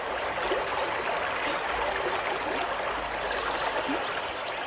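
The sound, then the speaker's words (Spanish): Steady running water from a village fountain in Becerril de la Sierra, in the Comarca del Agua, pours and splashes continuously, a dense bright rush with small gurgles, even in level throughout, with no voices. “De la comarca del Agua, así que tenemos que hablar, Nieves, sí o sí, de las fuentes de Becerril”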